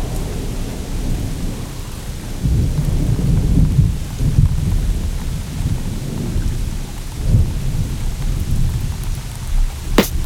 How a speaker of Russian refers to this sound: Ливень, кипящий на асфальте